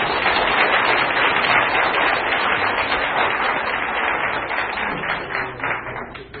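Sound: round of applause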